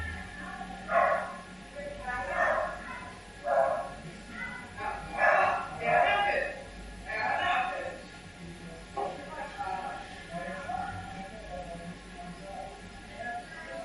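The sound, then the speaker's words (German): A dog barks repeatedly in short bursts, roughly every second or so, with people's voices murmuring in the background throughout. “Hintergrund spielt das Leben, ja. Ein Hund bellt, Stimmen.”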